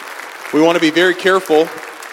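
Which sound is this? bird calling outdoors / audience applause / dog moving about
audience applause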